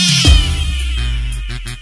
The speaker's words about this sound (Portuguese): Bota a gata pra miar. E bota a gata pra tocar. E bota a gata pra miar.